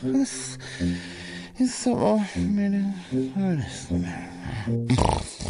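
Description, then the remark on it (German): A voice imitates loud snoring as if having fallen asleep: a run of growling, rattling snorts with rising and falling pitch, repeated in uneven bursts. “Ja bitte, schnarchen ist, ja was denn, ist ja jetzt eingeschlafen und schnarcht?”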